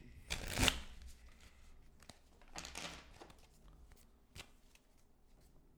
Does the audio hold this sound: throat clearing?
no